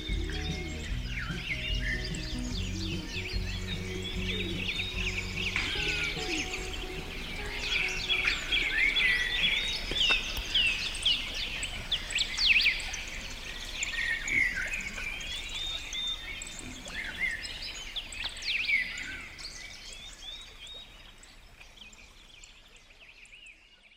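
A dense chorus of birdsong, many birds chirping and trilling at once in overlapping high, bright phrases, with a low steady hum underneath and no talking, fading out toward the end.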